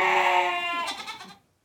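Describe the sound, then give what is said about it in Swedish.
A single goat bleat, loud, a nasal wavering cry that lasts just over a second before cutting off into silence. “En get kan det ha varit, va?”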